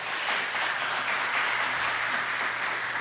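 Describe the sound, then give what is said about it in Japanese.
Steady applause from a standing church audience welcoming a visiting pastor from Toronto, Canada, a dense, even wash of many hands clapping at a constant level with no speech over it. “まず先生、最初に立っていただいて拍手を持って歓迎したいと思います。”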